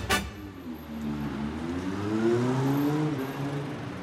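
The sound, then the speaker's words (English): A car engine rises in pitch as it accelerates along a street in the southern part of Berlin, over a steady wash of traffic noise, moderately loud, with a brief click at the very start. “Cars are driving by and across the street people are leaving a grocery store.”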